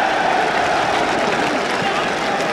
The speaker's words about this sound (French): On estime à plus de 2 millions de personnes la foule qui est venue rendre un dernier hommage à la dépouille de l'illustre savant. À toutes les fenêtres claquent des milliers de drapeaux américains et français. Écoutez la rumeur de la foule.